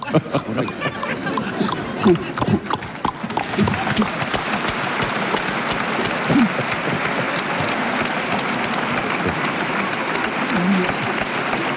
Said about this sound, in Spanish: No había duda. Sonido inequívoco e inquietante de un carruaje creció de pronto en la noche.